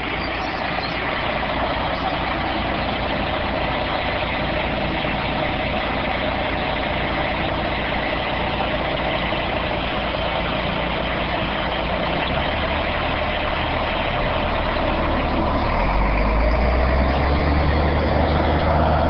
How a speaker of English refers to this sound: Wait till this part. Huh? Wait till the truck goes by.